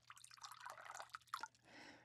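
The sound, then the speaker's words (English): Water pours into a glass, a quick bubbling, splashing stream with a few bright plinks, settling into a soft steady hiss at the end. “Yeah, you can have a glass too.”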